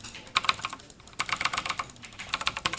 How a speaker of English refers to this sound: Clicking, typing. This isn't your typical sports team. It's an esports team. Indiana Tech added the varsity program at the beginning of this school year.